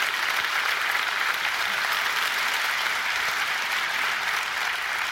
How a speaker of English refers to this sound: And so if he's out there in the lobby, can we just give a round of applause for him being out here today?